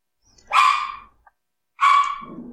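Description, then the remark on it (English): Two loud, sharp dog barks spaced about a second apart, each with a bright, harmonic burst that trails off, with no talking. “Sorry, my dogs are... I think my wife might be home.”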